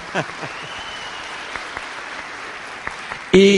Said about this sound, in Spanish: Un aplauso para mi upline.